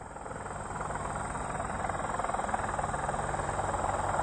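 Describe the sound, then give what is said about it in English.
An Apache helicopter in Clarksville, Tennessee: engine and rotor throb steadily and loudly, a dense mechanical roar with a fast pulsing beat that grows slightly stronger over a few seconds, with no voices. “That was an Apache helicopter from Clarksville, Tennessee.”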